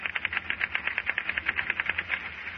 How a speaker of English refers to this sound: If your office is like many, your typewriters probably make this kind of noise.